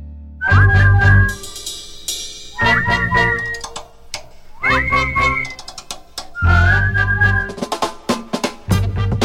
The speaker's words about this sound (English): Hey, let's whistle it together.